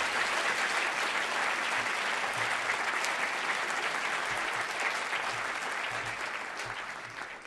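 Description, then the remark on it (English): Sustained audience applause at the close of the talking portion of a debate, a dense wash of many hands clapping at steady loudness for several seconds before beginning to taper slightly at the end, with no talking over it. “And I'd just like to ask for a round of applause as we conclude the talking portion of the debate.”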